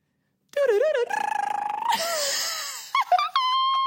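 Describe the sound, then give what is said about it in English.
A person's voice imitates a wood thrush's flute-like song: a few wavering whistled phrases, a buzzy trill, then rising and falling warbles ending on a bright, steady high note, fairly loud and alone. “Okay, so my favorite bird song is the wood thrush.”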